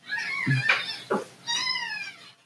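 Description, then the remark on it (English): A young foster kitten, fed milk every 2 hours, meows three times in quick succession, high and thin, the last cry drawn out and wavering, with no one talking. “So, I haven't talked about it on the podcast yet, but started fostering a cat.”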